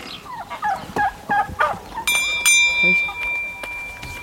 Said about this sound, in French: maintenant je vais soigner mes poulets, ils en ont de l'eau.